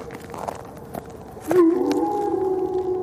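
A wolf's long, steady howl, answering a man's singing, rises in midway through and holds loud and clear to the end, with a faint, quieter tone before it over soft background noise.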